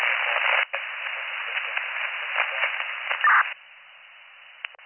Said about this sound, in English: That was mostly static, but what I copied is two firefighters on the inside, possible malfunction.